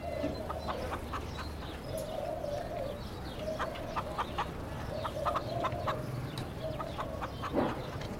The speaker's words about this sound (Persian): کبوترا روی وسایل نشستن.